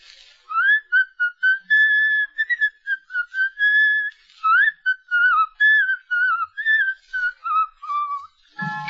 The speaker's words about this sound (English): That darn tune, why do I keep whistling it? Why can't I forget it?